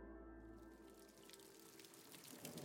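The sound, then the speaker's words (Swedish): A steady wash of heavy rain falls continuously over an embassy compound at Gärdet in Stockholm, Sweden, near midnight, with dense pattering and scattered drips, a broad even hiss under a faint low hum, with no voices. “Ett tungt regn faller över ambassadområdet vid Gärdet i Stockholm.”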